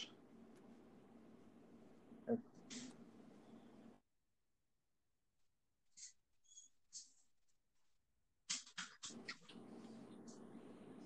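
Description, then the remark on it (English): Light, irregular clicking and tapping of dogs' paws pattering across a hard floor, coming in scattered bursts with a brief quiet gap, over a low background hiss. “I just felt like that pattering of my dogs. We're going to get annoying.”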